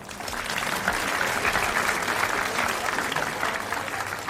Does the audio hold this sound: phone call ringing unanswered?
no